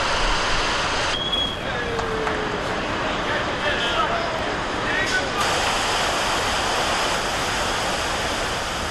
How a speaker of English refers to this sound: The part of the project that was done today involved allowing the river to slowly back into its new channel. It was done this way to avoid the damage that would occur to the riverbed if the flow were to occur too suddenly.